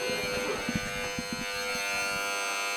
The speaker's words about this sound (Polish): Dziwny macie tu dzwonek w tej szkole. No ale wszyscy go słyszą i jak widać uczniowie z lekcji wychodzą od razu.